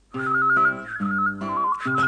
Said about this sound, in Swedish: Hör, nu börjar han vissla hörru. Så konstigt han visslar. Och spelar trumma till. Och munspel på samma gång.